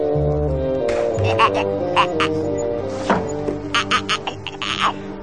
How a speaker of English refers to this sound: Now on the jasmine-scented breeze, the quacking of enormous geese.